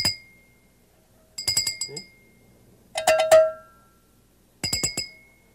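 Four short bursts of quick, bright ringing separated by pauses, mixing a clanking cowbell with a higher, glassy porcelain bell tinkle, each burst fading with a lingering metallic tone.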